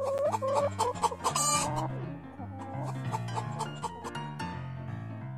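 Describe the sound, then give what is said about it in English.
Three hens, Loretta Lynn, Dolly Parton and Patsy Cline, of Terry's traveling chicken shit bingo operation in the Austin area, cluck in quick, choppy bursts, loudest in the first couple of seconds, over a steady, bouncy musical backing with a walking bass line that carries on to the end. “We wish her luck, and if you're in the Austin area and you're looking for a traveling chicken shit bingo operation, you might want to make Terry an offer.”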